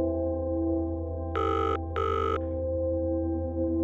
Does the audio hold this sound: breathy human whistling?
no